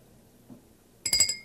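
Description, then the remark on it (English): A small porcelain bell rings in a quick, bright burst of rapid clapper strikes with high, clear tones. It follows near-silence and a faint low bump. “Porcelain bell.”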